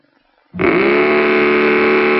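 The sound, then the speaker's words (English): After a brief near-silence, a Mattel Baroom hot rudder toy engine on a tricycle, started with a key, suddenly bursts into a loud, buzzy, rattling roar and holds steady at full volume to the end, harsh with a slight rise in pitch. “Well, you can make it roar with Mattel's terrific new Baroom hot rudder engine. Put it on a trike.”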